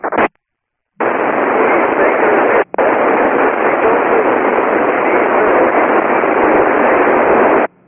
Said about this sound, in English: I did not copy that last station at all. It was all static.